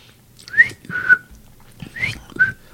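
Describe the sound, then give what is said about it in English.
A person whistles an imitation of a bird call: a clear, fairly high two-note phrase, a short upswept note then a steadier one, repeated twice with a pause between, with no talking. “Crossing the state line may affect your whistler.”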